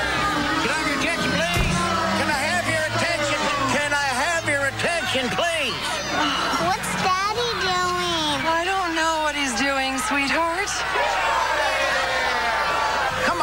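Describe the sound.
A loud, dense mob of many voices shouts and chatters at once on Christmas, rising and falling in overlapping cries with a few higher whoops, constant throughout.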